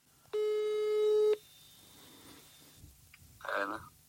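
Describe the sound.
A single loud electronic telephone ring tone of an incoming call from the Norrland police, lasting about a second, followed by quiet background noise and a brief, soft voice-like murmur near the end.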